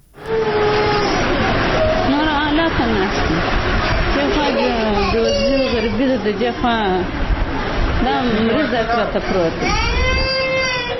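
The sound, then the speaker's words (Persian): A mother cries and sobs in long, wavering wails that rise and fall almost continuously, with a busy hospital ward hum and faint murmuring underneath, as she sits beside her sick child's bed in Mirwais Hospital, Kandahar, Afghanistan. “این مادر در شفاخانه میرویس کندهار در کنار بستر کودک مریض خود نشسته از فقر و بیچارگی گریه می کند.”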